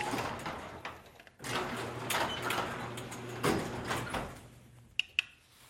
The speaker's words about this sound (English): All right, guys, I'm going to turn the light off for the garage door, and we'll test it inside, and then I'll open the garage door and see how far up the yard we see.